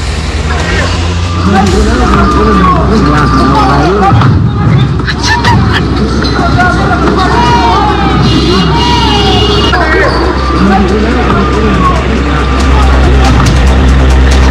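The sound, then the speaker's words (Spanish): Loud, dense outdoor crowd noise at a street protest where hooded protesters who attacked a bus block traffic and throw combustible objects: overlapping shouting voices and babble over a constant low rumble, with occasional sharp bangs. “Escuchemos parte de lo que fue este ambiente protagonizado por parte de estos encapuchados quienes bloquean el tránsito y posteriormente lanzan estos elementos combustibles.”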